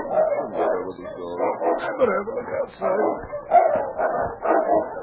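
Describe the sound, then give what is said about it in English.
Several sled dogs outside a cave in the snow bark, yip and whine in a restless, overlapping chorus that continues steadily throughout, fairly loud with no pauses. “Preston was almost asleep when he was roused by his dogs.”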